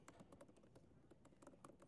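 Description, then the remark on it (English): Rapid, irregular clicking of keys on a computer keyboard as someone types in front of people, a steady flurry of taps with no voices, quiet overall. “It's always nerve-wracking typing in front of people.”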